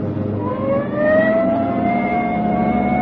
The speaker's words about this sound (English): Hit the siren. I'll get the light.